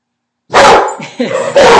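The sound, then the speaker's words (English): A dog named Ivan, trying to get into a house, makes two loud, rough bursts of noise with softer whining or whimpering sounds between them, after a brief moment of silence. “But it might just be Ivan, her boyfriend, the dog. He tries to get in the house sometimes.”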